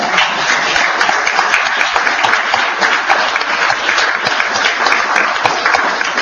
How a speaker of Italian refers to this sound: Abbiamo fatto il curriculum di tutti e bisogna fare un applauso